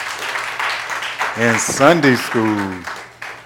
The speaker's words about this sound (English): And just by way of announcements, as always, I want you all to just give yourselves a hand. We had a huge crowd today in Sunday school.